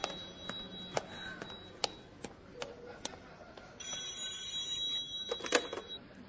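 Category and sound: signal or alarm, telephone ringing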